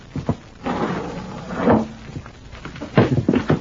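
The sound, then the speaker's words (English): A house window is forced open after the door is found locked, with a series of scraping, creaking and rattling noises, a loud grinding push midway and a couple of sharp knocks near the end, with no voices. “Well, we will just try this window.”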